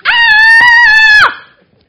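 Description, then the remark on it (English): A single voice lets out a loud, high-pitched, sustained scream of terror lasting just over a second, then cuts off sharply; one person imitating the fishermen of the Bible story screaming in terror at what they take to be a ghost on the waves. “These skilled, strong, able bunch of fishermen start screaming!”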